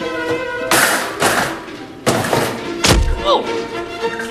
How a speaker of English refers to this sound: Jarvis is standing at the top of the ladder that's being pushed. His head collides with a sign hanging from the ceiling.